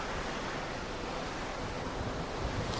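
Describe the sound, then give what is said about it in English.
A steady rushing wash of ocean water streaming past a moving ship, heard from its open deck, blended with wind noise. It keeps an even loudness throughout, with no voices. “Well, you know, maybe the thing to do is just sit on one of these deck chairs, watch the ocean go by, and do our radio show.”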